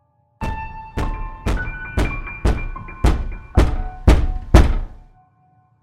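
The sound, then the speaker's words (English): A father is breaking down the locked door of his child's bedroom with nine heavy, booming thuds in steady half-second rhythm. Each blow leaves a brief resonant ring, and the last few hit hardest. No voices. “Finally, my dad decided to break the door down.”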